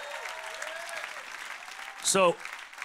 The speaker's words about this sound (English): Somebody give God a big hand clap right now.